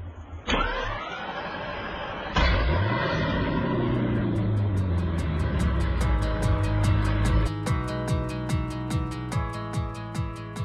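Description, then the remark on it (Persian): A minibus engine starts with a couple of sharp clunks, then revs and rises in pitch as it pulls away, followed by a steady rhythmic ticking over the running motor; no one speaks. “خب حالا اگه آماده هستین سوار مینیبوسمون بشیم، به صندلیامون تکیه بزنیم و حرکت.”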